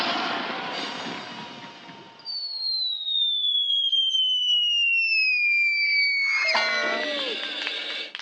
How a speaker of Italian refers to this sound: Dopo aver attraversato come una meteora il cielo della capitale, la donna cannone è atterrata come previsto sull'enorme cuscino.